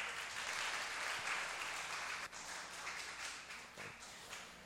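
A crowd applauds a young man about to share his experience, many hands clapping together in a dense, continuous wash of sound that holds for several seconds before thinning slightly at the end.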